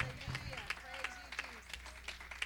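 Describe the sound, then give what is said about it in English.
An audience claps their hands in praise to the Lord during a morning worship service, in a loose, steady rhythm, the sharp overlapping claps carrying while voices continue beneath them. “I'll give the Lord a good hand clap of praise.”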